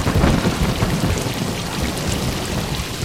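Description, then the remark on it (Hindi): Heavy rain pours down steadily in a dense, continuous hiss, with a deep rumble of thunder rolling underneath throughout; no one speaks. “अब इतनी बारिश में हम यहाँ नहीं रुक सकते, अब हम जा रहे, अब आप जानो और आपका ऊपर वाला जाने।”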